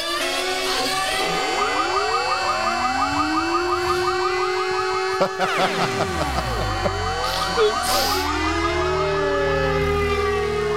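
A loud alarm siren, an alarm that has just been switched on, wails continuously, its rising and falling pitch sweeping over several overlapping tones, with a brief sharp click midway and a deep rumble entering in the second half.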